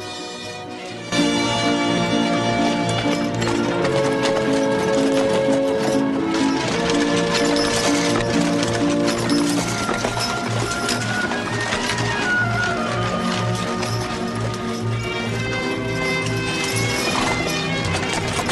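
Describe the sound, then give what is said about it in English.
Two horses drawing a carriage clip-clop in a steady, continuous rhythm along a dusty track toward a guarded gateway, with a busy musical score playing prominently throughout. “The horses head up a dusty track towards a guarded gateway and head through it.”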